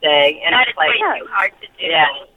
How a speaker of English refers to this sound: Nice hold music.